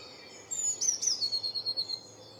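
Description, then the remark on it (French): A small bird, a tit, sings in a garden a quick series of high, thin notes, about two seconds of rapid rhythmic chirping heard alone. “Ah, ça, c'est une mésange.”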